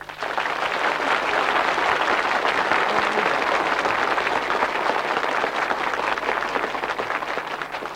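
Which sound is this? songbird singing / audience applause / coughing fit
audience applause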